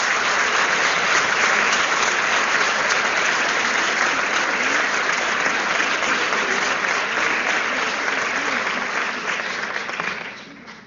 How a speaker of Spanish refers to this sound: Y con un caluroso aplauso lo invitamos a hacer uso de la palabra.